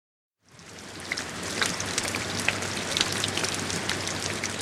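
Steady rain falls continuously at dusk beneath the Rashomon gate, a dense hiss of drops with occasional sharper patters, plus a faint low hum underneath. No voices are present.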